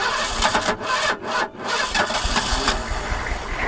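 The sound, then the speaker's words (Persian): The engine of a captured car, just repaired, cranks with a rapid, grinding starter whir, stutters through a couple of brief dips, then catches and settles into a steady, rough mid-pitched idle. No voices are heard. “دکتر ماشین آماده شد. میتونیم بریم.”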